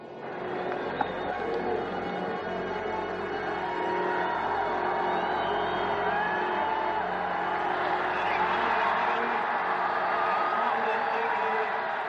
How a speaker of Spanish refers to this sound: Por eso las ovaciones y aplausos. Ahora mismo están en la luna. Todos se ponen en pie para aplaudirles.